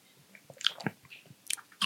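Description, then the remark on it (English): Wet mouth sounds: a short slurping sip of a cocktail followed by crunchy chewing of a mouthful of seeds, with irregular bursts of crackly biting and smacking over about two seconds, no talking. “I am going to double strain this because I just got a mouthful of seeds and I did not like it.”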